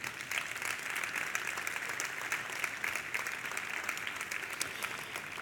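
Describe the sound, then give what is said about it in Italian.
Sustained audience applause for Umberto Eco fills the space, a dense, steady wash of many hands clapping at once, fairly loud and even throughout with no voices breaking through. “E l'applauso è per Umberto Eco, che ci manca sempre tanto.”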